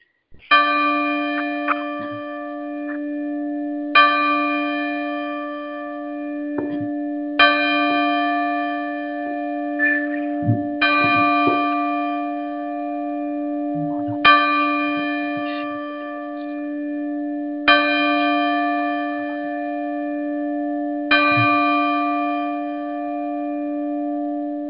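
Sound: church bells ringing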